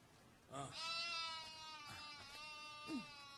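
A sheep bleats loudly, one long wavering cry followed by a shorter call near the end, with no voices in the background, as an old woman milks it in the desert.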